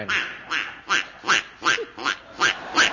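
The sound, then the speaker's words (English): A voice imitates a duck, giving about seven loud, nasal quacks in a steady, evenly spaced rhythm, with no talking. “It says, manufacturer's warning, this chicken is a Bombay duck.”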